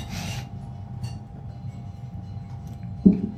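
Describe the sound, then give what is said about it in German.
Beer glasses clink together once in a toast, a short bright knock near the end, heard over a low, steady rumble of background noise. “Prost, Krieger.”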